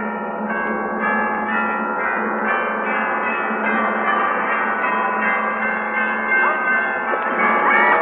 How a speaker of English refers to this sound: Let the bells ring out.